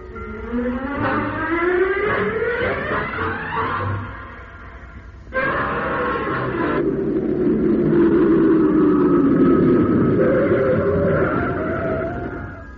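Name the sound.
car engine driving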